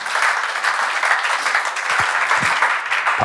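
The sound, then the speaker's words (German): An audience claps steadily, a dense, even wash of many hands sustained throughout with no voices, a few sharper individual claps standing out near the end. “Ich vergesse das immer mit der Pause für den Applaus für dich.”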